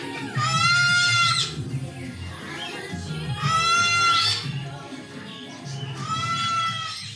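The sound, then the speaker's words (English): Three loud, harsh squawks from sulfur-crested cockatoos at a bird party where pet birds are let out of their cages, each a drawn-out, wavering screech lasting about a second, spaced a couple of seconds apart over a low background murmur. “At today's bird party, I meet Triton, a sulfur-crested cockatoo.”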